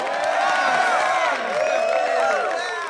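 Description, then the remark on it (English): A large audience cheers and whoops loudly, many voices rising and falling together in a sustained, dense roar for a few seconds with scattered clapping underneath. “Big cheer!”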